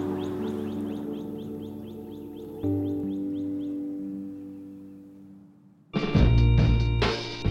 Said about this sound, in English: And right now, you can hear all the birds chirping and just normal nature sounds. I love that.